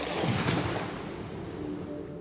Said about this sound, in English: Under a pre-dawn sky, waves gently lap against an indigo shore. September 11th, 2001.